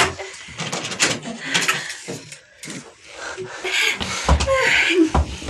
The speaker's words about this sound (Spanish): El tosco pistolero descorre un gran pestillo y empuja la puerta, que se abre.